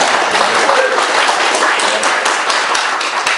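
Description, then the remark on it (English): A crowd applauds steadily, dense overlapping claps forming a loud, continuous wash of sound with scattered sharper hand slaps throughout, no voices standing out. “Go ahead and clap it up.”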